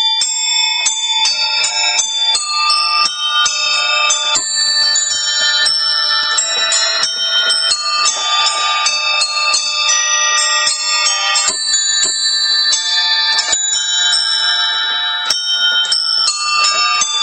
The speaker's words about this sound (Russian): Это пианино плюс коллекция колокольчиков. С этим необычным инструментом музыкант в инвалидной коляске гастролировал в областном центре.